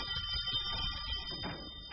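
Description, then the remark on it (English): A bell rings steadily, its bright, sustained metallic tones hanging in the air for the whole moment over a low, murmuring rumble, with no voices. “I told Jim he needn't ring it again, Penny. It makes such a wonderful sound.”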